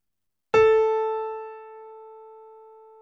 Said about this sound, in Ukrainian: Проверьте точность воспроизведения вашим плеером высоты звука по сигналу камертона «Ля».